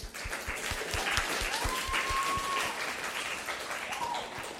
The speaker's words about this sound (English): Cool. Yeah. Round of applause.